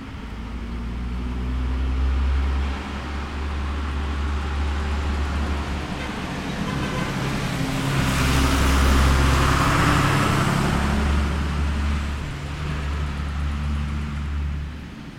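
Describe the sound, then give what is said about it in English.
A UPS delivery truck drives past a front porch, recorded with MS microphones, with a steady low engine rumble and broad road noise that swells to a peak midway, then gradually eases off; the driver honks as it goes by. No voices are heard. “I'm sitting on my front porch yesterday recording, and the UPS truck goes by.”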